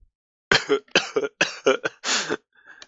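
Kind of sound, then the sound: human body sound, coughing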